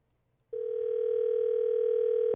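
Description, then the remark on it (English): After a short silence, a telephone ring tone sounds on the line as a man calls his mom: one steady, unbroken mid-pitched buzz held for about two seconds, with no voices. “Big Al Matt calling his mom doorbell to see how many times he can get in.”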